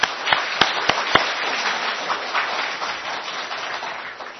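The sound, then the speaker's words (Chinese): A church audience applauds to welcome a visiting pastor and eleven guests from the USA, Australia and Hawaii: a dense wash of many hands clapping, with a few sharp, loud claps at the start before settling into an even, sustained patter. “他们都是分别在美国、澳洲、夏威夷来到我们当中，我们是给掌声欢迎他们。”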